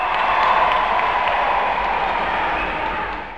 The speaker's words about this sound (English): I feel like we need to get like sound effects because I clap all the time and I'm always like, yay! But it just sounds hollow.